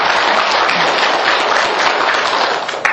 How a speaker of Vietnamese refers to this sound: Thì quý vị cũng nên mừng cho quý em một tràng pháo tay cho con bạn.